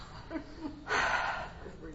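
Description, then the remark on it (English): A sharp, heavy breath rushes out in a single loud gasping exhale amid quieter breathing and faint vocal sounds, as people puff through a guided movement exercise, drawing circles with their pelvis. “So you're all breathing again now.”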